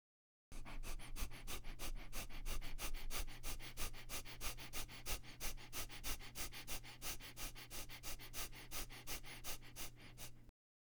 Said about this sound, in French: Je vous propose de faire des respirations abdominales par le nez sur un rythme rapide en commençant avec la tête vers le bas. Respiration abdominale rapide.